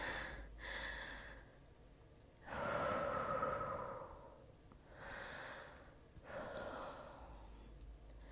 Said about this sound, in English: I know. I'm trying to slow my breathing down.